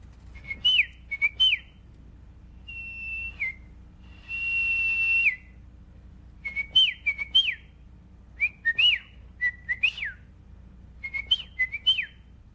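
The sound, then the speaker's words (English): A person whistles a series of bird-call imitations, short warbling chirps and a couple of longer sliding notes, repeated in quick bursts with brief pauses, clear with no talking. “Oh, remember your bird calls?”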